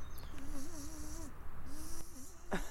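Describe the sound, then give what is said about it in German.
A voice imitates a mosquito's buzz with a wavering, warbling hum, in two stretches with a short pause between, fairly loud with no talking. “Es hat hunderttausende Mücken, so dass man ganz wahnsinnig wird.”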